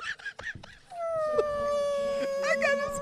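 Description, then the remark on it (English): A person imitates a whale with a long, drawn-out moaning call, held steady for about two seconds right after a brief burst of talk. The voice is fairly loud. “But then 3 seconds later, you were making whale noises.”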